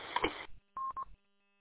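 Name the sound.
radio timeout timer chirping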